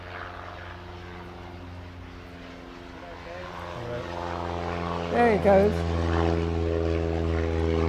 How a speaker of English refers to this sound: Oh, hang on, plane coming.